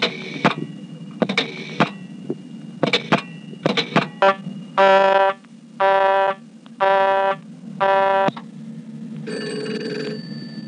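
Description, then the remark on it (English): Telephone line tones on a step-by-step exchange as the dial tone is left to time out: bursts of sharp clicking give way to four evenly spaced, buzzy one-second beeps, followed by a steadier tone at the end. Clear, with no talking. “I'm now going to let the dial tone time out.”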